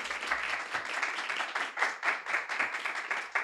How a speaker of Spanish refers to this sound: Vamos a dar fuertes palmas al Señor, hermanos.